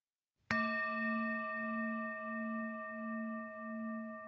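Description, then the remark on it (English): A single bell is struck once to signal the resumption of a session after a short break, and left to ring, its clear tone sustaining steadily with a gentle wavering shimmer for several seconds. No voices, just the resonant ringing on its own. “Thank you, Carlita, for ringing the bell.”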